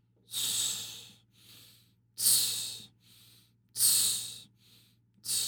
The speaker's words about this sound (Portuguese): Mas o que ele está fazendo, para quem não está vendo, ele está inspirando aos poucos, o freno labial está soltando o ar aos poucos, mas na inspiração ele encolhe o abdômen.